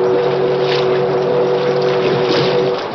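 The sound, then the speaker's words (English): The whistle of the steamboat Big Missouri blows one long, steady, loud blast as a warning on the river, over a rushing wash of engine and water noise, then cuts off near the end. “Once again, the whistle sounded as a warning.”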